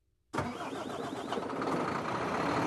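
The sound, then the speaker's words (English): After a brief silence, a heavy engine roars to life and keeps rumbling loudly and steadily, a broad mechanical din of trucks running at a truck depot in northwest Turkey, about 30 miles from the European Union frontier, with no voices. “A truck depot in northwest Turkey, just 30 miles to the west, is the frontier with the European Union.”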